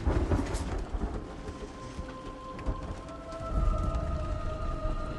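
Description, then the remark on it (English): Steady heavy rain hisses throughout while deep thunder rumbles of a lightning storm roll in and swell, loud, with a faint thin sustained tone drifting faintly in the background. “Lightning illuminates the room, and she's revealed as Eva, striking a seductive pose.”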